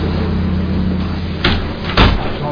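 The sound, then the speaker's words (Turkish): A door opens with two quick, fairly loud thuds about half a second apart, set against a steady low rumbling background with no talking. “Orayı da aç, o kapıyı.”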